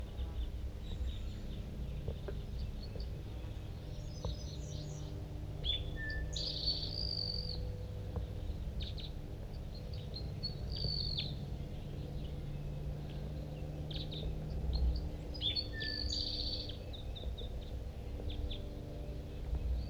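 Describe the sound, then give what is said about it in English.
A male crossbill calls in two short bursts of high, sharp chirps and whistled notes, set over a steady low rumble and a faint insect-like buzz, with no voices. “The flock took off, but I think that male's still hanging around here.”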